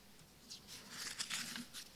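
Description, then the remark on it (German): Soft rustling and crinkling of paper in several quick bursts as pages are leafed through on a desk in search of page 3, with no voices. “Wenn ihr mich jetzt hier so blättern seht, dann kommt das daher, dass ich die Seite 3 suche.”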